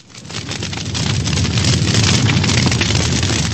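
A dense, continuous barrage of festive fireworks, booming and crackling together into a loud, steady roar that swells in over the first half second and holds, with no voices; a festive fireworks display ending a full day of celebrations.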